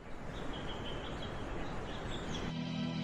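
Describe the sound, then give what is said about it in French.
Faint bird chirps repeat over a steady, rushing wash of running stream water in a forest; near the end a low, droning hum swells in beneath them. “Le chant des oiseaux, le bruit des cours d'eau.”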